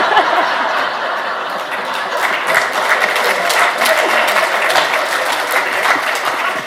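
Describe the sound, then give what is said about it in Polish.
Steady, dense applause from a crowd fills the whole stretch, a continuous crackle of many hands clapping at even loudness, with a few faint chuckles mixed in and no speech. “Ale wszyscy się odwracają i biją brawo.”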